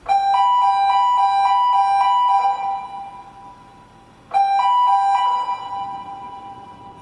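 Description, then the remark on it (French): A machine alarm sounds in loud, rapid electronic beeps alternating between two mid-high pitches, stopping briefly with a ringing tail before a second burst starts and fades out. “Ça, c'était l'alarme de la machine, ça.”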